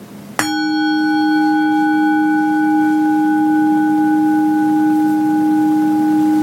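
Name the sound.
bell ringing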